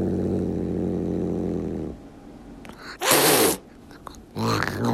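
A tuxedo cat named Frankie reacts to two new kittens brought to its home in Rhode Island: a low, steady rumbling growl, then a loud, breathy hiss after a pause, followed by a second, shorter hiss. No one talks.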